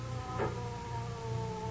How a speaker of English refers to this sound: Here comes the ambulance.